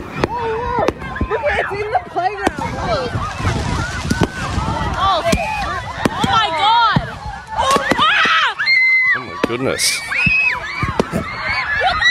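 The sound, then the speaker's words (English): Fireworks crackle and bang in rapid bursts as they rain down on a panicked crowd at Christmas celebrations at Allenby Heights Oval in Sydney's Northern Beaches, with children and adults shrieking and shouting throughout, someone exclaiming, and wind buffeting the microphone. “Christmas celebrations at Allenby Heights Oval in Sydney's Northern Beaches turned to chaos when the fireworks started raining down on the watching crowd.”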